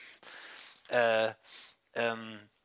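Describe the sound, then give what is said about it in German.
A voice imitates angry, forceful huffing as the sound of an angry emoji, breathing hard out through the nose like in anime such as Dragon Ball: breathy nasal exhales alternating with two loud, strained voiced grunts, alone, over a couple of seconds. “Der atmet ganz doll aus der Nase raus, so also ein bisschen wie in diesen Animes, wie bei Dragon Ball.”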